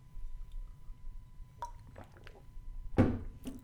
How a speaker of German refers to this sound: So, wo ich das sage, trinke ich doch erstmal einen Schluck Wasser.